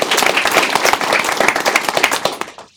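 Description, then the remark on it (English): A crowd breaks into steady, loud applause for Port Houston staff, many hands clapping densely together for a few seconds before the sound quickly fades out. “So let's give our staff a hearty round of applause.”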